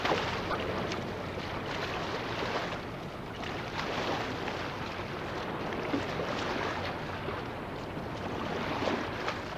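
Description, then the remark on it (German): A steady, dense rush of water and engine-like noise from a fishing boat on a river approaching the fishing spot, with wind buffeting the microphone and water sloshing throughout, no voices. “Das Boot nähert sich der Fangstelle.”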